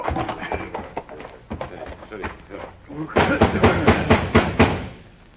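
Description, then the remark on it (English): Loud, rapid pounding on a house door at night by men who came on horseback in the Reconstruction era, a run of about eight heavy knocks, preceded by muffled voices and clatter. “And they would come on horseback and knock on the doors at night.”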